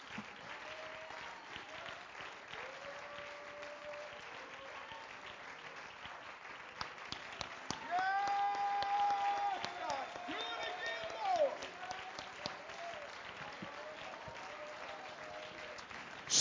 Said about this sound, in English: Oh, let's give the Lord a hand clap of praise here this morning.